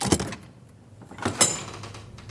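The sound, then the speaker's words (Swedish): A dormitory door is opened: a sharp latch click, a quieter stretch of handling noise, then a second louder clunk with a brief high squeak as it swings. “Anastasia inser direkt att något är fel när dörren till sovsalen öppnas.”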